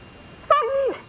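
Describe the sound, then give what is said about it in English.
A dog named Tramp lets out one short, high-pitched whine that holds briefly and then slides downward in pitch, fairly loud against a quiet background, with no one talking. “Either bark or attack something. Don't just whine.”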